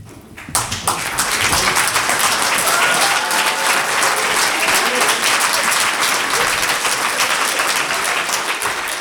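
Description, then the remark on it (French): An audience breaks into sustained applause for the students of Niki de Saint-Phal, a dense, steady roar of many hands clapping that starts abruptly and holds at a loud, even level throughout. “La mise en scène jusque sur le t-shirt, vous pouvez applaudir les élèves de Niki de Saint-Phal.”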